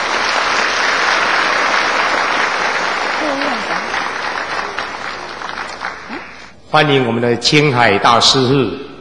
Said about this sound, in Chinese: 现在我们是不是以热烈的掌声欢迎施市长上来为我们讲几句话？请他们上台啊！请我们再以热烈的掌声欢迎施市长。